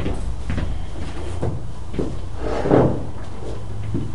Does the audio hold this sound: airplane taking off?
no